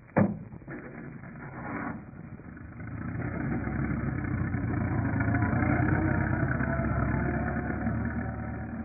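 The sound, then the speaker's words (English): A sharp thump opens, then a light truck's engine starts up by a hangar and rumbles steadily, growing louder as it revs and drives off, with no voices. “Well, let's grab that light truck over by the hangar.”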